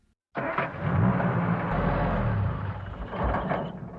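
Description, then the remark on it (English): An Escort car engine strains to start, a rough, continuous mechanical grinding that kicks in abruptly and churns on for several seconds without catching. Loud, with no voices. “The escort's dead! She hasn't failed since... well, this morning.”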